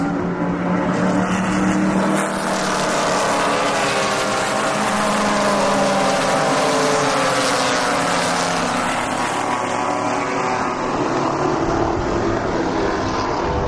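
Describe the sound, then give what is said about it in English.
Loud, steady roar of race car engines on a track as the cars come off turn number 10, with pitch rising and falling as the cars pass by, continuous throughout with no talking. “You know, the listings on the program don't always match up with the cars that are on the track, so I didn't, there's a few I called out that I did not see in this group.”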